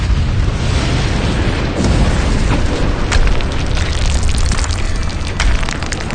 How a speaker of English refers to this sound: And there were noises and thunderings and lightning, and there was a great earthquake, such a mighty and great earthquake as had not occurred since men were on the earth.